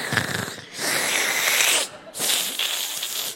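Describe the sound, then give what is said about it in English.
A voice imitates a sick child's heavy, labored breathing: a long raspy wheezing inhale, a brief pause, then a second harsh, drawn-out breath, both loud and noisy with no words. “She's breathing like a really long bong hit.”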